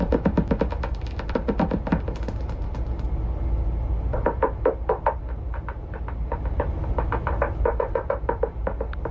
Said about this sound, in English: Back on the bus to Indy, Hyatt took us on a journey from bat sounds he had collected over the summer.